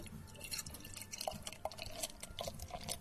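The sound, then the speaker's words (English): Outstanding IPA beer pours into a glass, a steady fizzy splash with small bright drips and clinks scattered through, fairly quiet and continuous for a few seconds with no one talking. “Pours nice.”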